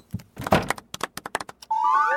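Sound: door opening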